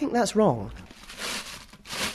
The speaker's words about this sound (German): Jess kramt in einer Plastiktüte.